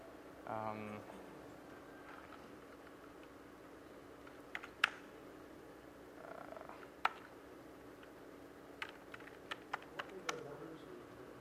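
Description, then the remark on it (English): Sparse keyboard typing as numbers are entered, program stream IDs for a video transport stream: a few isolated keystrokes, then a quicker cluster of clicks near the end, fairly quiet over a steady low hum. “Those numbers that I was typing were the program stream IDs for the transport stream, so that the software that parses the transport stream knows where to find the audio data and the video data in the stream.”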